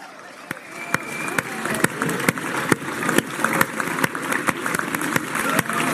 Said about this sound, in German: Rein die letzten Meter. Unser Mega-Applaus. Christoph Strasser. Trans-Austria 2023.